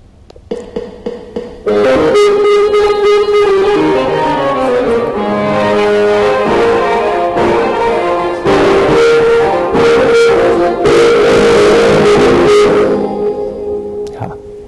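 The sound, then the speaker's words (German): Orchestral music played on electronic instruments driven by a file, with no one playing live, opens with a few short plucked notes, then swells into full, sustained chords with a reverberant sound, loud and steady before trailing off. “Sondern es ist wirklich nur diese Datei, die sozusagen die elektronischen Musikinstrumente ansteuert.”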